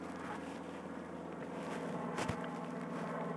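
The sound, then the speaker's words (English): A steady, droning rumble of an airplane flying overhead, holding an even level throughout, with a brief soft thump partway through and no voices. “Oh, there's an airplane.”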